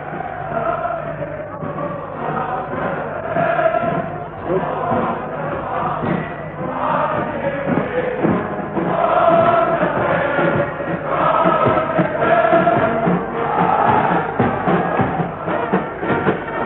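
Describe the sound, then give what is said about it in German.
A large crowd cheers outside, heard through an open window of the room where the new Reich Chancellor Adolf Hitler stands, the masses cheering him as the SA marches past: a dense, continuous roar of many voices that swells and surges in loudness, with no single speaker standing out. “Sie können jetzt besonders gut hören, die Menge jubelt.”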